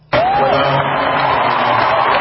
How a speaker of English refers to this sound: Now, I don't know what the cheers are for. I'm kind of confused.